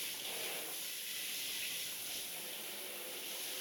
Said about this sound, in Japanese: お湯加減大丈夫ですか？胸や足に、腕にも順番にシャワーのお湯をかけておきますね。